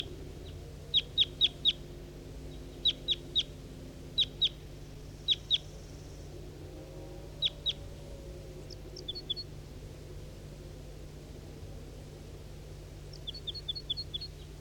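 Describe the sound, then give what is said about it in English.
A wild bird calls in quick bursts of three or four sharp, high chirps, repeated every second or so over a steady low hum, with fainter, thinner chirp clusters toward the end. “Wild bird.”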